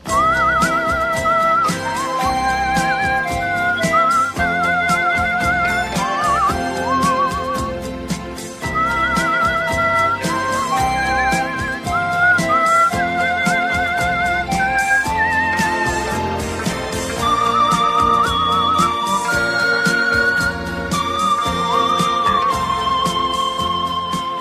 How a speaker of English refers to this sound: Hammond organ, the electronic organ, and he multi-tracked himself playing the Hammond organ and whistling at the same time.